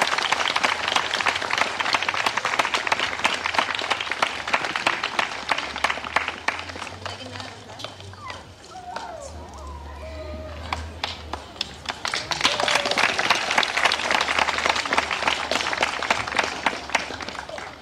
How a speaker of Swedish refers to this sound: Så en varm applåd och tack för ditt engagemang.